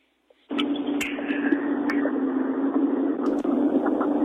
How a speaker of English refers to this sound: I hear the pickup or the tractor working there. Yeah, I'll shut her down here.